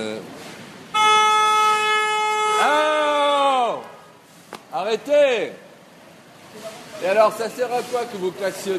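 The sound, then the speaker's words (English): A driver honks a car horn in one long, loud, steady blast lasting a few seconds, then it cuts off as people begin talking. “A second blast and … loses it. Knock it off, he shouts, approaching the driver who's just honked.”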